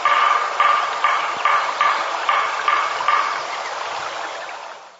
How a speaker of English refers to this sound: Take a look, I mean, and listen to this. Here comes a woodpecker, a type of woodpecker.